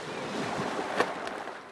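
Sea waves wash steadily against the shore, a continuous hissing surge with a brief louder splash partway through, heard alone without any voices.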